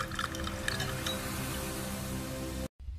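Water pours steadily into a glass, a continuous bright splashing stream with rising tonal ripples as it fills, stopping abruptly near the end before a brief faint tail.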